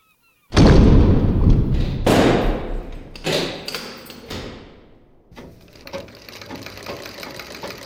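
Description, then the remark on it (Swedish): A heavy prison cell door in Helsingfors county prison slams shut with a loud bang, followed by several metallic clanks of the lock being secured, then a lingering reverberant fade. “Så låser de in mig.”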